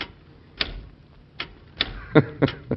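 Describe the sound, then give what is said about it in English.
A mechanical typewriter in the White House is typed slowly and unevenly, about six sharp clacks of individual keys struck one at a time with pauses between, no voices present. “It's a miraculous age we're living in, Robert. Think of it. A typewriter.”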